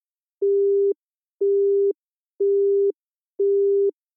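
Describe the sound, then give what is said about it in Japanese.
A telephone busy tone after a silent caller's line cut off: four steady, evenly spaced beeps, each about half a second long with equal pauses between them, clear with no voices. “電話はそのまま切れてしまいました。”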